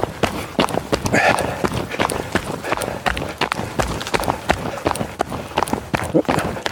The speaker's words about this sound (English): That sounded like a large animal, maybe a dog, in the bushes.